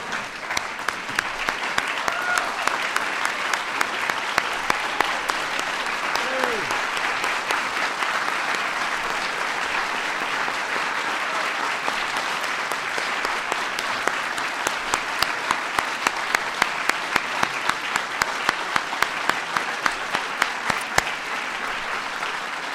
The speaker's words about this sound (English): What an extraordinary group. Let's give them all a big round of applause one more time.